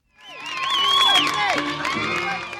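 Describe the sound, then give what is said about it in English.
A crowd of 1,800 spectators at an elite women's field hockey game in the United States cheers and whoops, high excited voices rising and overlapping in a loud, sustained roar that holds steady for a couple of seconds. “1,800 spectators isn't a big crowd for, say, a professional football game or even a college volleyball championship.”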